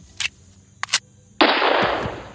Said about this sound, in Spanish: Yo me acuerdo que en el cuarto en el que estábamos escuchábamos los disparos cuando mataban a alguien y luego pasaba un señor en bicicleta anunciando quiénes habían sido los asesinados.